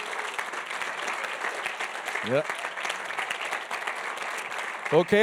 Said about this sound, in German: Freut euch, klatscht in die Hände. Ich denke, das tun wir jetzt nochmal. Wir klatschen mal richtig laut in die Hände.